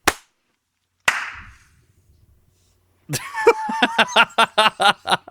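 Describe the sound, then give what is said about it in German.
Two sharp, separate claps ring out, then after a pause a group breaks into quick, steady, loud clapping, with a few voices calling out at the start. The clapping follows a New Year's greeting and a count of one, two, three. “Das war eine halbe Stunde, das Klatschen war eine halbe Stunde später irgendwie.”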